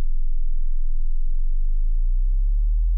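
A 20 hertz test tone: a steady, extremely low sine hum, more rumble than pitch, holding at an even level for about three seconds with no voices.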